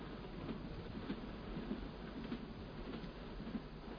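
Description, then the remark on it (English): A steady low rumble of a train running on rails, with soft regular clacks roughly every half second, heard from inside at a moderate, even level with no voices. “Still enjoy traveling by train?”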